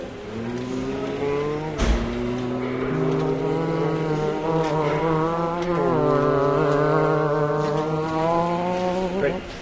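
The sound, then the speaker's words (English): A car engine drones steadily on a highway in a short movie sequence, its pitch climbing and dropping with gear shifts, loud throughout with no voices. “We put in a little 5-second sequence in the movie that takes place on the highway.”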